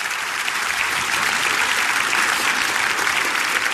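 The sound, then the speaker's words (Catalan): Sustained applause from a large audience filling a hall in Vic at a live RAC1 radio broadcast, a dense steady wash of clapping hands at an even loudness throughout, with no voices rising above it. “Primer aplaudiment ha estat quan m'heu vist sortir, el segon aplaudiment és per vosaltres per haver vingut.”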